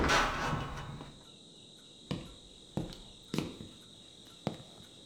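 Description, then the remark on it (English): A front door is opened with a brief rushing scrape, followed by four sharp, spaced-out clunks and knocks, while a steady high insect chirr runs underneath. “Oh, open it! Open the door!”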